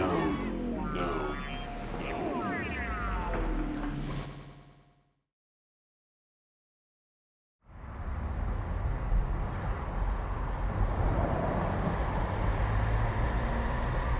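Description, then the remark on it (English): Steady low rumble and road hum of a car interior while driving, heard from the back seat, starting abruptly after a brief silence that follows a few seconds of sweeping, warbling tones. “From the back seat of Dad's impeccably clean car, I study him.”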